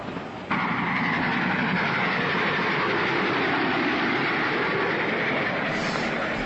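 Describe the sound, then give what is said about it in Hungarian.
A steady, loud rumble of a train carriage rolling along the rails, a dense continuous roar that starts abruptly and holds without pause, with no voices. “Itt, a vonaton.”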